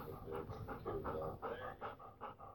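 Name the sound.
dog panting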